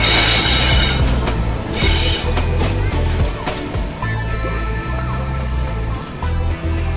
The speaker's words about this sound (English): I really love the old trains coming down here and seeing the steam trains. It's great.